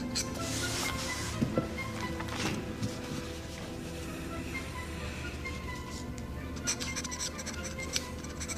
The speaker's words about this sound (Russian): Кабинет Чусова. Он подписывает документы.